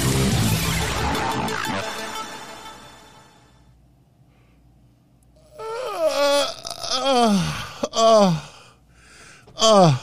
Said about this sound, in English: Fake yawn, but I did yawn about 5 minutes before it went live.